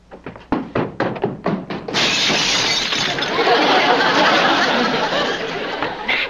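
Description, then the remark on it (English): A door being broken down: a quick run of about nine heavy, loud thuds, then a sustained crashing, splintering burst that carries on for several seconds. No one speaks. “Right now, I want to break this guy's door down.”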